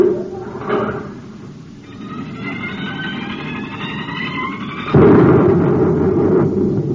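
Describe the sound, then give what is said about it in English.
A deep, continuous roaring rumble with shrill whistling tones streaking above it, then a sudden louder surge of booming noise as the top of a volcano's crater is blasted off and the volcano erupts. No one speaks. “You blasted the top off the crater. The volcano. It's erupting.”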